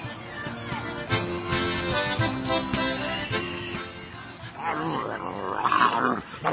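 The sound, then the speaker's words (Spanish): A dog named Pantera growls roughly and continuously, its snarling rising and falling in rowdy play with a person, with scuffling and a brief higher yelp-like sound near the end. “No soy tu cachorro para que juegues así conmigo, pero sí, me vas a lastimar, hombre.”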